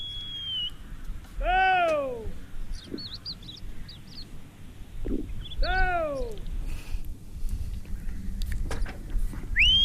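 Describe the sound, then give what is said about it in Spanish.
A shepherd from Cabanillas del Monte, a village about 6-7 kilometres from Segovia, calls his dog to his sheep with sharp whistles and two loud, drawn-out falling calls a few seconds apart, while small birds chirp faintly over a low background rumble. “Pues sí, es un pastor. Estaba llamándolo al perro. Llamando al perro a sus ovejas, ¿no?”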